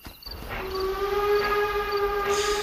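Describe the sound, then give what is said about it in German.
A slowly moving train rumbles along steadily, with a sustained high, whistling metallic tone ringing over the low rolling noise, loud, with no voices. “Beide rennen dem noch langsam fahrenden Zug hinterher und können ihn knapp erreichen.”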